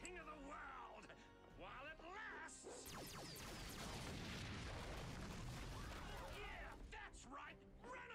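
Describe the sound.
People talk briefly, then a building explodes in a loud, sustained blast whose roaring rumble and debris crash fill several seconds before fading as voices return near the end.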